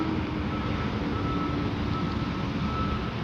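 A big truck idles and rumbles in a steady, loud drone, with a thin reversing beep tone running faintly through the engine noise, early in the morning before 7 o'clock in a neighborhood. No one speaks.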